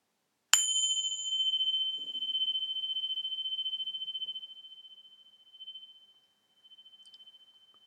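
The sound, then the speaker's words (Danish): A single meditation bell is struck once to begin a meditation and rings out with a clear, sustained tone that slowly fades over several seconds, with no talking. A faint soft tap is heard near the end. “Meditationen begynder, når klokken ringer.”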